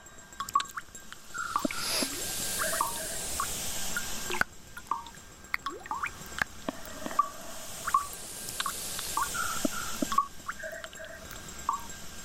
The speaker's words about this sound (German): Das Ganze dient dem Wohlgefühl und der Entspannung. Der Theatersaal verwandelt sich auf diese Weise in eine wabernde Klanglandschaft, in der es schmatzt, quietscht, rauscht, blubbert und vieles mehr.